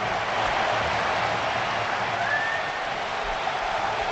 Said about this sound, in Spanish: Hay división de opiniones, ¿no? Más aplausos, pero bueno.